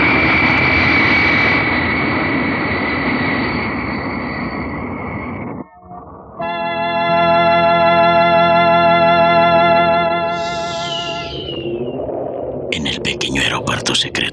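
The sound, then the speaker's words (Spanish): A small jet leaves the runway, climbing at full speed and flying away; its engine roars loudly and steadily, then gives way to a droning, whining tone. Near the end a burst of crackling, chattering noise comes in. “Grupo de mecánicos observan sonrientes como el pequeño jet desaparece en la distancia.”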